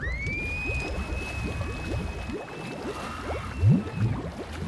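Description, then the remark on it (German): Water in a hot spring sloshes and gurgles continuously, with a thin steady whistle-like tone riding above the churning splashes. No one speaks. “Die doofe Quelle mit dem heißen Wasser.”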